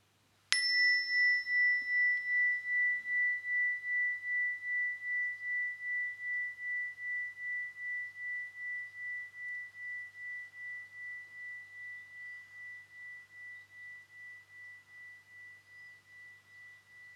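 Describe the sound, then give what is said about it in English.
A single meditation chime is struck once and rings out with a clear, sustained tone, its gentle pulsing shimmer slowly fading over many seconds in otherwise quiet surroundings. “Then we finish Calm Me Time with the chime again at the end.”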